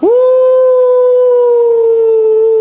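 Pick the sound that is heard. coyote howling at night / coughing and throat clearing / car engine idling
coyote howling at night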